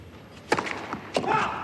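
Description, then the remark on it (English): A tennis racket strikes the ball on a serve during a tournament match with a crisp, sharp pop, followed about half a second later by a second similar impact, over a steady background of arena ambience; the big serve down the T misses. “Missed down the tee, went big.”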